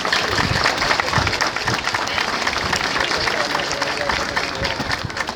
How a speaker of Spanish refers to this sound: Así que la verdad es que se merecen un fuerte aplauso para todos ustedes.